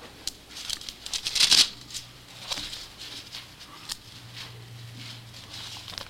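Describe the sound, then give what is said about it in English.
Soft paper rustling and flicking as little pieces of paper are handled while turning to a Bible passage, with a brief louder crinkle early on, then lighter scattered shuffles over a faint steady hum; no one speaks. “I can get there a lot quicker because I have these little pieces of paper.”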